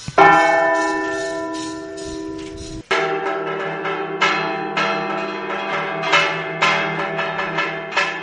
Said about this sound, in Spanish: Las campanas del Templo Catedral de La Laguna, tal como hicieran hace 100 años, volvieron a repicar esta mañana. De esta forma han comenzado los actos para celebrar el primer centenario del Templo Catedralicio.